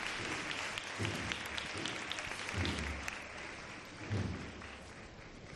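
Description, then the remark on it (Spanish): The audience at a Holy Monday procession applauds steadily as a musical composition ends, a dense wash of clapping from many hands with a few louder low thuds and swells, sounding outdoors, with no music playing. “Finaliza ahí la composición musical y escuchen los aplausos del público presente.”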